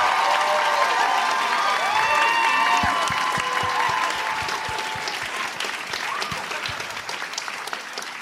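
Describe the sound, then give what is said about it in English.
A crowd applauds steadily, dense overlapping claps with some cheering voices mixed in, loud throughout and easing off slightly toward the end. “Well, after that round of applause, I'll take Breaking Bad.”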